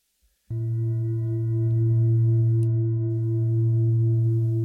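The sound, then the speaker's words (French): A gong is struck once, then rings on in a deep, steady hum layered with bright overtones, swelling slightly louder as it sustains for several seconds with no voices. “Voilà, c'est le gong que j'ai acheté. Ça sonne, hein ?”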